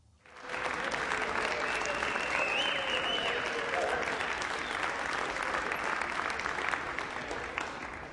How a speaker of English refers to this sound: What are they clapping for?